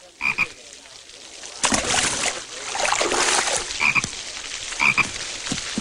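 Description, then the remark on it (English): A frog croaks in short, rattling bursts, a few separate calls spread across several seconds, fairly loud over a steady wash of rushing, splashy background noise. “So then the frog heads out of the airport through a window and then goes on its way.”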